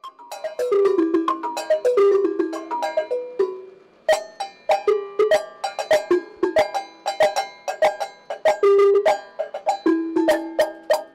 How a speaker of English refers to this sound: He has made kitchen pans and cowbells from the villages into rhythm instruments.